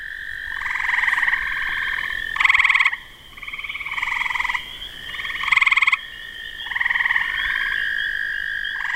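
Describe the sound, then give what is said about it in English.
A dense chorus of three different kinds of frogs and toads calling continuously, with overlapping trills and pulsing croaks swelling in repeated louder bursts, several callers layered together. “So when I listen to that, I can actually hear 3 different frogs and toads calling to us.”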